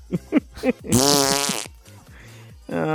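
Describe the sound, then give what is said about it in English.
A voice imitates fart noises: a few short sputtering bursts, then a long, loud, buzzing blast, followed by quieter vocal rumbles. “Fart joke.”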